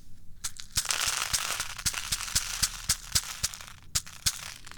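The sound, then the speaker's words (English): Wheat kitty litter pours onto a sheet of paper, to be funneled into a bottle, in a steady, dry granular hiss, studded with sharp crackling ticks as the grains and paper crinkle. No one speaks. “And I'm going to pour a little bit onto this piece of paper so I can funnel it down into this bottle.”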